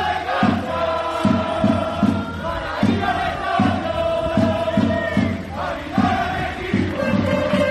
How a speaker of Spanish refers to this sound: Hay que apuntar que se dejó de escuchar los gritos en los estadios.